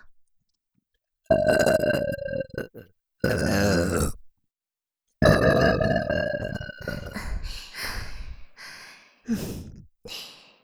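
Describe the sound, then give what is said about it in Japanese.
A series of long, deep, loud burps given as a welcome, with a drawn-out first burp, a short second one, then an extended rumbling burp that breaks into ragged bursts before trailing off. “あまり散らしてもいけませんし、まずは歓迎のゲップ、行きましょう。”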